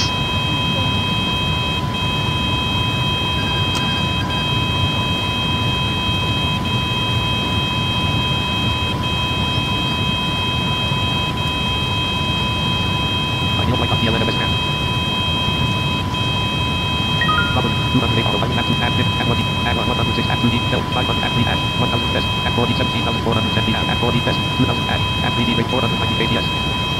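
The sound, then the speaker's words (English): A cockpit stall warning alarm buzzes steadily and without pause, a piercing electronic tone held over a constant low engine rumble, with indistinct voices underneath, after the autopilot is turned off to slow down. “Gosh, I hate this freaking store alarm.”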